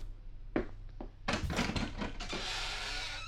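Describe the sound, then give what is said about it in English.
The big door of the Munsters' house opens to let a guest out: two quick clunks of the latch, then a loud grinding, creaking swing, followed by a steady rushing hiss like wind coming through. No one speaks. “Let me open the door for you.”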